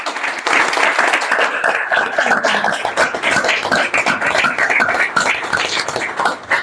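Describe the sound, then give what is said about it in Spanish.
An audience at a festival bursts into sustained applause for the speakers, the shop and the Siete Héroes initiative, many hands clapping in a dense, steady wash that stays loud for several seconds without dying down. No one speaks over it. “O sea que simplemente, aparte de pediros un aplauso para los aquí presentes, los ponentes, para la tienda y la iniciativa por parte de Siete Héroes, por favor, un aplauso.”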